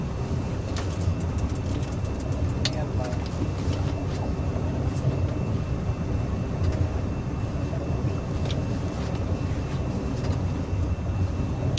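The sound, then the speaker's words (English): A pump drains water from a boat with a steady, dense low rumble that never lets up, broken by occasional sharp clicks and splashes. No one speaks. “Well, there's pumping the water out of the boat.”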